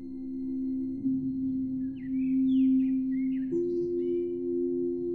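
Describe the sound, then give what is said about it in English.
Soft morning bird chirps, a scattering of quick high twittering notes, drift over a loud, steady low drone that holds throughout and shifts pitch slightly partway through. “The gentle sound of birds chirping creates a peaceful melody, welcoming the new day.”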